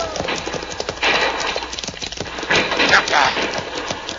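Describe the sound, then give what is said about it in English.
A herd of horses stampeding, dense rapid hoofbeats pounding together in a loud, continuous rumble that swells and surges, with voices mixed into the commotion. “See, Pancho stampede the horses.”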